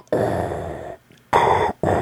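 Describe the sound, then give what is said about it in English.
Loud, raspy mechanical breathing like Darth Vader's respirator mask, from a 10-hour Darth Vader breathing recording: a long hissing draw of nearly a second, a brief pause, then two shorter harsh rasping breaths. No one speaks. “Well, now we've got 10 hours of Darth Vader breathing.”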